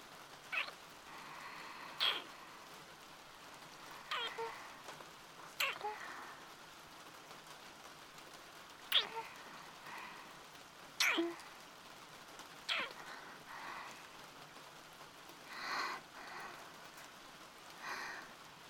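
Soft, steady rain hisses continuously at a low level, broken every second or two by sharper drips and splashes. No one speaks.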